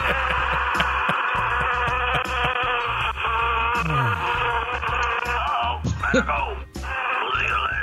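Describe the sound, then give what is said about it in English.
A dense, continuous buzzing drone of bees fills the whole stretch, loud, with warbling harmonics, plus a few brief sliding tones near the end. “It's the damn bees.”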